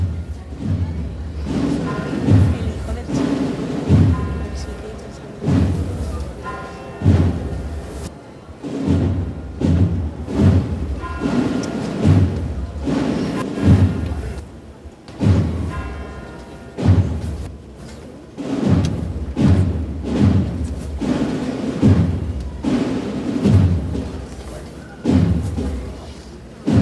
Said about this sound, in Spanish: Adentrando en el interior de la basílica. Suena la puerta